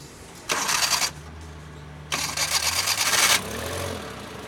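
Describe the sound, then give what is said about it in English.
A car engine, just fitted with a new set of spark plugs, cranks with a loud whirring starter burst, pauses, then cranks again and catches, settling into a steady low idle. Fairly loud, with no voices. “When he had finished installing a new set of spark plugs, he nodded for our driver to start the engine.”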